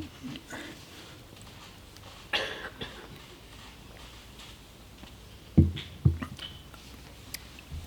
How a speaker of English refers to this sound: Just to say as well, sorry, I'll just have a quick sip of water.